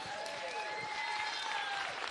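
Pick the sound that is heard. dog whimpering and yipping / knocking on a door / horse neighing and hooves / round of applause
round of applause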